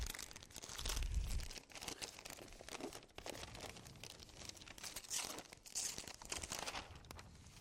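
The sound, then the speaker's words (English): Wrapping paper is torn off a gift and crumpled, a steady run of loud crinkling and ripping that continues for several seconds with no talking. “Wait, there's more wrapping.”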